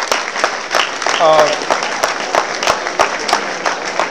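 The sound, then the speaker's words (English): A crowd applauds with steady, moderate clapping, a dense patter of many hands, as the men in the audience give the women present a round of applause; a brief voice or whoop rises through it early on, and the clapping carries on evenly to the end. “Let's start by saying, all the fellas in here, you need to give the ladies in here a round of applause, because they don't get the credit that they deserve.”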